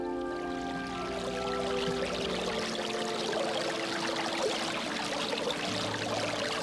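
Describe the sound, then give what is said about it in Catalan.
Steady trickling spring water runs continuously over rock, a bubbling flow like a small stream spilling over stones, with a faint tonal hum lingering underneath during the first couple of seconds. “La font mitjancisada esperava per néixer i vorejar la roca amb un ordre de la nit.”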